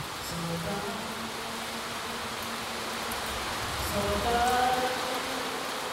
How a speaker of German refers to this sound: Mitten in der Regenzeit. Da muss schon mal eine Aufführung unterbrochen werden, wenn es plötzlich unübertönbar auf das Blechdach herunterprasselt.